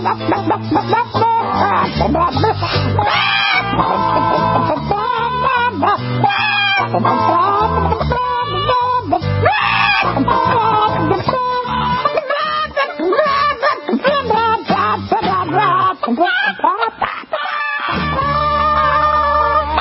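A loud, bouncy novelty song runs throughout, with chicken clucks and squawks woven into the music alongside singing voices, busy and continuous from start to finish.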